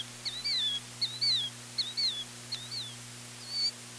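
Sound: killdeer calling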